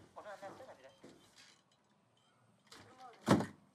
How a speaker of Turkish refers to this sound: Zeynep düşünceli itekleyerek kapattı sıkışan kapıyı.